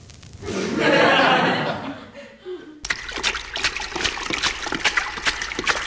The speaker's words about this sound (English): what's that sound I hear? That's water sloshing.